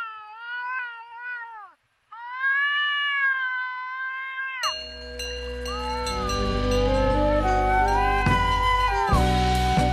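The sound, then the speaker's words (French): A European wildcat gives two long, drawn-out wailing yowls during mating season, fairly loud, with a brief gap between them, before music abruptly takes over for the rest. “Et après, parfois, sur les pièces vidéo, on peut l'entendre, surtout en période de rut.”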